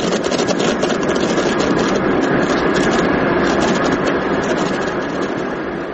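Airliner engines drone steadily from inside the cabin, a loud, unbroken roar with a dense rushing hiss that holds level throughout, with no voices.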